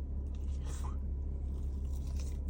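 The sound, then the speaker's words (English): Someone takes a first bite of well-done loaded carne asada fries from Humberto's, 25th Street location, San Diego, eaten in a car's back seat, and chews them with soft, moist crunching and smacking over a steady low rumbling hum. “First bite, cheers.”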